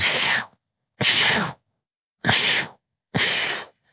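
Several people breathe forcefully together in an exercise: four loud, breathy rushes of air, each about half a second, evenly spaced with short silent gaps and no talking.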